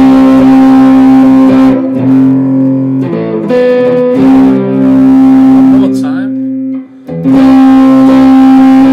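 A loud, distorted electric guitar holds a ringing chord as the pickup selector is flicked through the different pickups, its tone shifting brightness several times with brief dips and a short gap near the end before sustaining again.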